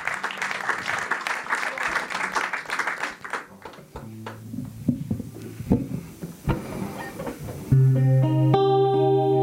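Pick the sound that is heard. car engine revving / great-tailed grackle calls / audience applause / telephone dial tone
audience applause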